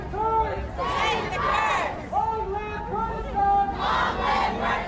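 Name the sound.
crowd chanting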